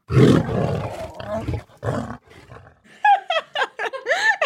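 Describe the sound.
A person imitates a lion's roar with a loud, rough, drawn-out bellow, followed by a few shorter strained vocal bursts and wavering cries, with no other talking.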